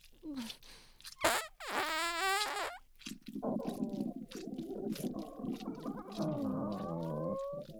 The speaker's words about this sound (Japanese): あ、やべ、ハンズみたいなおなら出ちゃった。 ちょっと、今のどういう意味？ブリブリこいて気持ちいいんだからいいじゃん。